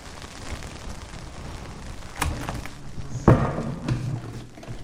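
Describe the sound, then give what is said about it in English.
Rain comes on again on a farm, hissing evenly throughout, with a couple of dull thumps breaking through around the middle and no voices present. “So you just mentioned rain there, and of course that's the magic sign for the rain to come on again.”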